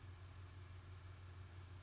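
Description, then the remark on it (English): A steady low rumble of an idling truck engine outside drones continuously, muffled, with a constant hum and no voices. “Oh, I think there's a truck outside or something.”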